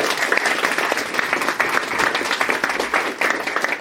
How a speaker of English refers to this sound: Round of applause for all of them.